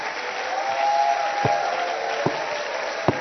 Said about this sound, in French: Maintenant, nous pouvons acclamer et applaudir.